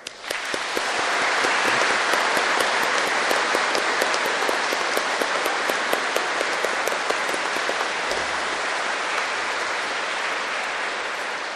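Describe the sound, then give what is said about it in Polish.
A church audience at mass applauds visiting musicians who played bandura, flute, violin and guitar, steadily for about eleven seconds: a dense crackle of many hands clapping at a constant level with no voices, easing slightly toward the end. “Teraz nagrodźmy ich oklaskami.”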